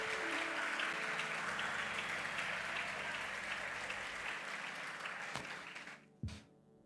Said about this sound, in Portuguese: Você pode aplaudir a presença dEle nesse lugar.